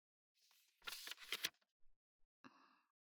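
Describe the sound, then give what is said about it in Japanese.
A sheet of paper received from Lydia is handled: a second of crisp rustling and crinkling, a few soft taps and shuffles, then a brief breathy vocal sound at the end. “ほら、リディアにもらった紙。”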